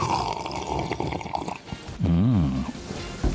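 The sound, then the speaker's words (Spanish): A noisy, airy slurp of coffee being sipped, lasting a couple of seconds, followed by a short, wavering voiced hum of satisfaction. “Yo también estoy tomando café. Pues, ¿qué les parece? Si un sorbito, ¿no?”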